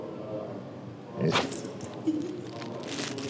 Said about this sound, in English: That's his library voice. He can do a big outdoor bark, but he doesn't like to. So the kids all call that his library voice, because you're supposed to be quiet in a library.